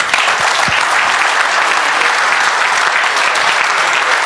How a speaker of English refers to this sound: So, you guys want to please give me a hand in warming, giving him a warm welcome,